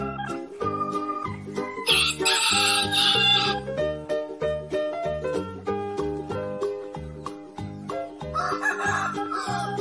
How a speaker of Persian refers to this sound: خروس پرهنایی رو نرده ها نشسته، میخواد آواز بخونه اما چشاشو بسته. شعر قوقولی هاشو شاید که حفظ کرده، یا شاید هم نوشته شعرها رو پشت نرده. هر جوری که بخونه نمره بهش میدم 20، چون خروس خوب ما خروس بیمحل نیست.